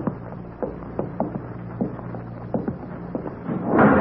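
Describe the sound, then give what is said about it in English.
A series of soft, scattered clicks and taps is followed at the end by a louder, fuller thump as a door swings shut. “Someone closed the door behind us.”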